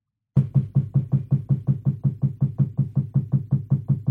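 A woodpecker drums on a tree in a residential neighborhood, two doors from a house, in a steady, rapid series of hollow, resonant knocks, about five per second, continuing evenly for several seconds, fairly loud with no voices.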